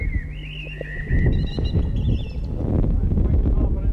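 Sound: birds chirping outdoors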